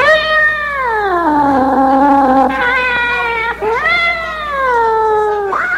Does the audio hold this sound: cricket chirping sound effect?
no